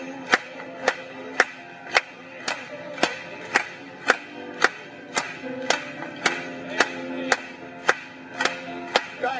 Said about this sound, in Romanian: Hai să o batem de palme pentru el în seara asta.